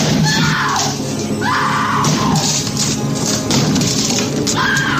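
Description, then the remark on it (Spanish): A film scene in which Jack Nicholson, axe in hand, repeatedly smashes and splinters the wooden bathroom door with loud, heavy blows, while the woman hiding inside screams in terror, her shrieks rising and falling over the crashing impacts. “Nicholson, hacha en mano, intenta derribar la puerta del baño donde se esconden su mujer y su hijo.”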